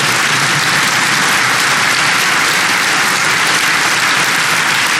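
Sustained applause from a crowd during a speech about the NATO alliance, a dense, steady wash of many hands clapping at an even, loud level for several seconds with no voices on top.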